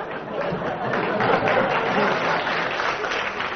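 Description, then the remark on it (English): A steady round of applause from a crowd, dense and continuous clapping at a fairly loud, even level throughout, with no voices standing out. “I should think a round of applause for that, yeah.”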